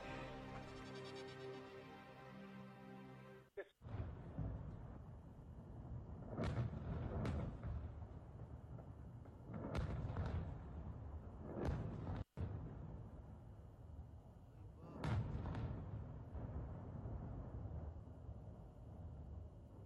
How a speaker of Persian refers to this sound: صدایی که شنیدید از برخورد موشک‌های شلیک شده به مرکز جاسوسی رژیم صهیونیستی در اربیل عراق بود. بدین ترتیب طبق اعلام منبع‌های خبری، یگان ضد تروریسم اداره اقلیم کردستان عراق در بیانیه اعلام کرد که بامداد روز یکشنبه اربیل با 12 موشک بالستیک